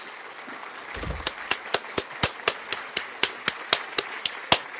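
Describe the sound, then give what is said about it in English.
Steady, evenly spaced hand claps, roughly fifteen sharp claps over a few seconds, fairly loud, like a small round of applause with no voices. “Everyone, round of applause.”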